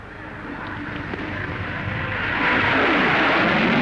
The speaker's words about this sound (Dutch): De hoofdradiopost geeft aan Leeuwarden het teken dat er gestart kan worden. In een minimum van tijd is de straaljager los.